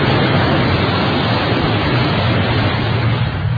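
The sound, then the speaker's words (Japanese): A steady, full wash of surf noise, like waves rolling onto a shore, holding an even, fairly loud level throughout with no voices. “今日もまた寄せては返す波の音に紛れて、思い出が消えていくのを待っている自分がいる。”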